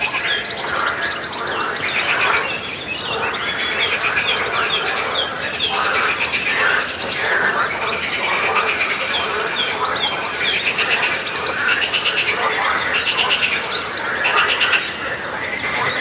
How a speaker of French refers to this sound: je me suis aperçu qu'il y avait des centaines de petites grenouilles sur le chemin. Et donc, je les ai d'abord vues, puis entendues